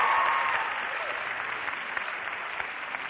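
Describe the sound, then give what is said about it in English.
A crowd claps steadily for about three seconds, a dense patter of many hands that gradually eases off a little. No one speaks over it. “Is that a guy clapping back there?”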